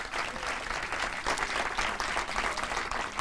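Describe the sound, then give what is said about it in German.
A live audience at the Frame in Zürich applauds steadily, a dense wash of many hands clapping at an even, fairly loud level throughout, with no voices standing out. “für euch zuhause, die jetzt uns zuhören, gibt es einen Applaus von unserem Live-Publikum, das live vor Ort ist, hier in Zürich im Frame.”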